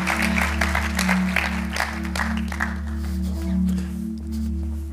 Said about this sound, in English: I know you're going to be blessed by the word today, so would you give him a big round of applause as he comes to minister the word?